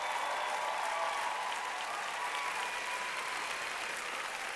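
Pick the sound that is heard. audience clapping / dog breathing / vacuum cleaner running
audience clapping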